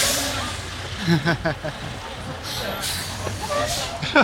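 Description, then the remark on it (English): A big 18-wheeler truck rumbles past at close range, its low engine drone filling the street, with sharp hissing bursts like air brakes and a brief voice. “Almost got hit by a truck.”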